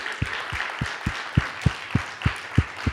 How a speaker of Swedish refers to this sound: Just det, Frankrike, ställ dig upp. Du må, ge honom en applåd. Han är från Frankrike.